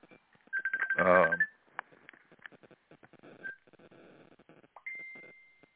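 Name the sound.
telephone ringing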